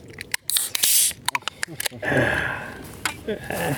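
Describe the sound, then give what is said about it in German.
The cap of a bottle of buttermilk (acidophilus milk) is twisted open: a burst of hissing air, several quick plastic clicks and creaks, then a longer soft rushing hiss with faint voices in the background. “Was Sie hörten, war ein guter Milchaufschraubgeräusch.”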